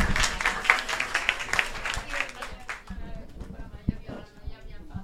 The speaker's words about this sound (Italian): Perfetto, perfetto. Applausini sommessi.